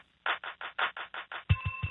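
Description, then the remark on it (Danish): A rapid series of electronic telephone ringing pulses, about eight evenly spaced bursts, as a phone call is being transferred, followed by a steady tone with low thumping beats. No voices are heard. “Kan du stille mig op til dem? Ja, vil du være lige et øjeblik, jeg kan prøve.”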